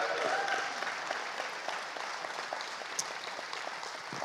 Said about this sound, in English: If you believe that, can you clap your hands and praise him? Oh, come on, you can do better than that.